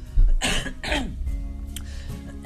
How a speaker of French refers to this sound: Voilà, je me racle la gorge, je bois une petite gorgée d'eau citronnée.